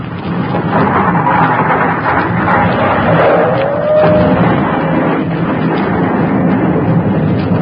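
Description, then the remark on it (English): A loud, continuous rumbling roar of a volcanic eruption as the sacred city blows up in a first explosion, starting a new volcano, with a booming explosion churning throughout and a brief whistling tone of pieces of the city whizzing by sliding through the middle; no voices. “That's the first explosion.”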